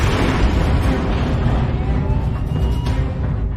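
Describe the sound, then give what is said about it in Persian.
A ship being hit by an explosion: a loud, deep, rumbling roar that stays heavy and steady for several seconds, with crackling texture in the low end and no voices. “کشتیمون ضربه خورده.”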